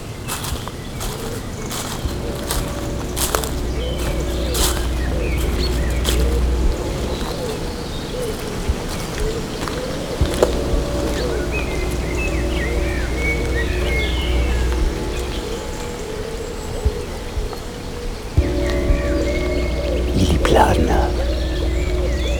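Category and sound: bird, forest birds singing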